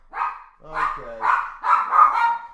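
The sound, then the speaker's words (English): A dog named Gunther barks repeatedly, five or so sharp, harmonic barks spaced about half a second apart, fairly loud with no other sounds around them. “We do have, apparently, Gunther the dog believes that Asuka's going to win and does not like our take on Asuka.”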